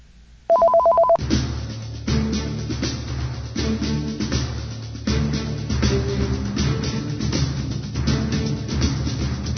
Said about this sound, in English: You can hear the phone ringing.